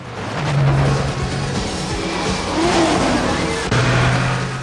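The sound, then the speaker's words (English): A loud car engine roars and revs continuously at high speed during a nighttime car chase on a highway, its pitch rising and falling over a dense rush of road and wind noise, with no voices. “John accelerates to ram him.”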